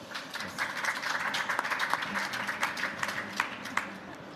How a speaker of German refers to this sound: Herzlich willkommen und ein Applaus für euch.